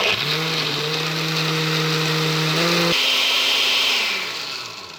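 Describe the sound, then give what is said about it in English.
A kitchen blender runs loudly and steadily, blending mole with a little salt and the liquid the meat was boiled in; its motor whine holds a low hum that drops in pitch midway as the blades churn, then the whirring tapers off near the end. No talking. “So a little bit of salt and then the blender.”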